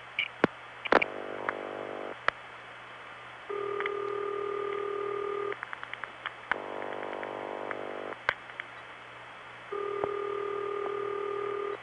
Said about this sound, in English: Now Columbus is dialing. Seven digits to a step tandem, and when it's through, it's ringing.